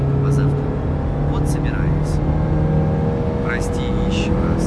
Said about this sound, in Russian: Ах, блин, пробка какая.